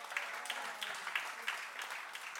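An audience applauds steadily, a dense wash of many hands clapping with a few sharper claps standing out, at moderate volume, with no voices.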